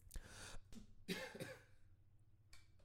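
A muffled cough comes in a few short, breathy bursts, the strongest in the middle and a softer one at the end, with no talking.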